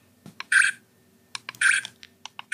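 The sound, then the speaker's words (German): Two crisp mechanical shutter clicks from a professional camera, each a short metallic whir-snap framed by small ticks, separated by about a second of quiet; no one speaks. “Ja, die Geräusche. Ach, das ist so eine professionelle Kamera, ne?”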